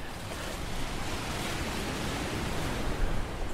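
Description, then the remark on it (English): Steady roar of Pacific Ocean surf breaking on a remote Washington State coast, big whitecaps crashing in with sea stacks behind, a dense continuous wash of crashing waves with wind mixed in and no voices. “Big whitecaps crashing in and sea stacks behind.”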